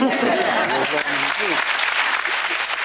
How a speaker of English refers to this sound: Sitting on the panel along with the presenters, she smiles and claps.